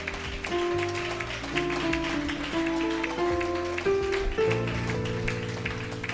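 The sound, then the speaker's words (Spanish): A church audience claps for the Lord steadily in a dense, continuous wash of applause for several seconds while sustained keyboard chords play underneath, shifting pitch now and then. “Aleluya, denle ese aplauso al Señor con alegría.”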